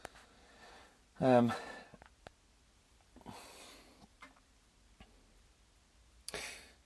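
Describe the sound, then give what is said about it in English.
A gas fire with its pilot light lit ticks faintly inside a motorhome, with sharp, irregularly spaced clicks against a quiet background. A few breathy sniffing or snorting sounds are heard. “It's ticking away, and I'm a little bit worried about that because it shouldn't be ticking.”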